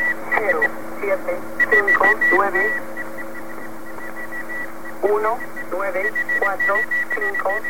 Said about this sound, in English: This is the one coming from Virginia. Now, is that code attached to it, or is that another station? Ham radio operators like to cause interference to these stations just to give them a hard time. Ah. A little bit of jamming, eh? Yeah.